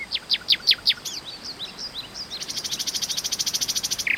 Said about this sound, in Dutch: Juist, nachtegaaltjes natuurlijk. Met hun gouden keeltjes en ingewikkelde liedjes staan ze bekend als de operazangers van het bos.